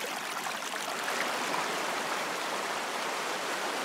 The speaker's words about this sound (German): Die Folgen des Klimawandels kann man sehen und hören. Mal plätschert das Schmelzwasser, doch im Hintergrund sorgt ein schneller Strom für eine Art Grundrauschen.